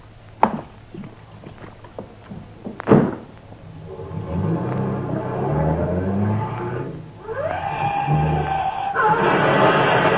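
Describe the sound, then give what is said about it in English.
A car door thuds shut, then an engine revs hard and climbs through rising gears as the vehicle speeds off, loud, with no one speaking. “The theory is that the victim, in an intoxicated condition, lost control and drove off the viaduct.”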